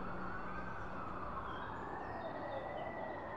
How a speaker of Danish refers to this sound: De første sirener kom ganske kort tid efter for politibiler, der allerede var i området.